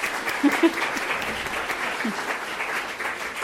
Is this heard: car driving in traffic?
no